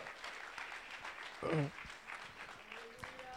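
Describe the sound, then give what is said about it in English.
A crowd applauds a man steadily after a prayer, a dense wash of clapping hands with a brief voice rising above the crowd midway and a few faint tones near the end. “Give him one more hand clap, folks.”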